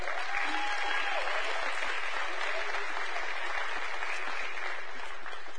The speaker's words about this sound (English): It's an honor to be able to clap for tithes and offerings, please.